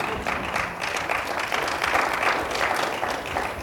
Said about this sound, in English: See, that was a good place to clap right there.